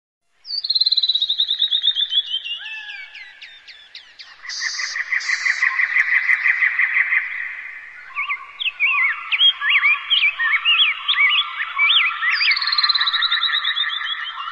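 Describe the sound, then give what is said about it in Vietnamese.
A dense chorus of many birds calling at once as the flock flies back to the nests at dusk, after the last sunlight fades, with overlapping chirps, trills and rapid repeated notes filling the whole stretch, fairly loud, with no voices. “Khi những tia nắng hoàng hôn cuối cùng tắt hẳn, chúng lũ lượt vỗ cánh trở về.”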